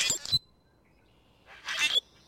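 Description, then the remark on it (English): A common grackle gives two harsh, raspy calls about a second apart, each ending in a thin, squeaky whistle, clear with quiet between them. “On the way to the bus or train stop, you might see a common grackle hopping along the curb.”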